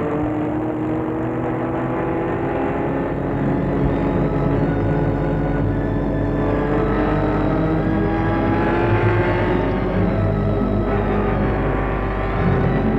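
A car drives steadily along a road toward the Monts du Lyonnais, its engine humming with a low, continuous rumble and tyre noise, fairly loud, with no voices.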